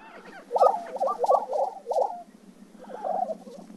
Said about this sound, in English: It's prairie chicken mating season.